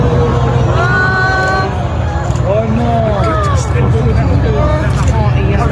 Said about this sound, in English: The cathedral featured a 96-metre spire behind the famous bell towers on top of the nave, but that fire has caused the spire to fall earlier today. And this is the sound of onlookers reacting to that fall.